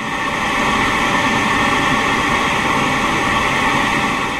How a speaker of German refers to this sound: Große Ventilatoren lassen den Abfall mit rund 70 Stundenkilometern regelrecht in ihre Container fliegen.